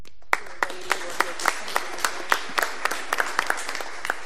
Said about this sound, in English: Can we just take a few seconds and give a round of applause just to honor those individuals?